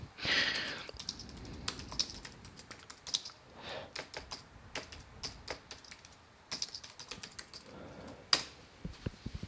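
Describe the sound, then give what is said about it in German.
Typing a password on a computer keyboard: a steady stream of sharp, irregular key clicks over about ten seconds, with a few louder keystrokes standing out and no talking. “Wenn ich jetzt wüsste, wie mein Passwort ist. Man muss auch tippen.”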